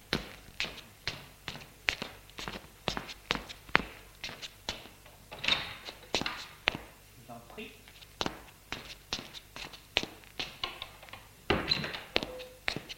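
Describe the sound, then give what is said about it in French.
Footsteps walk steadily across a hard floor into a living room, a series of sharp, even taps and thuds, with a few soft voices murmuring in the background. “Et elle l'amène au salon.”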